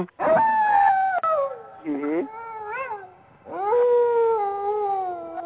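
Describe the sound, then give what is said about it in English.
A voice imitates a howling war chant: loud, sustained wails that slide and waver in pitch, broken by a brief warbling yelp before a final long drawn-out howl. “She was doing the war chant.”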